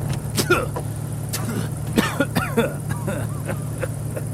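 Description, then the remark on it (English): An old jalopy rumbles along with a steady low engine drone, while irregular knocks, clatters and squeaks rattle through the cabin as it bumps over uneven ground. “But you'll have to bear this rocky jalopy for a little while, won't you?”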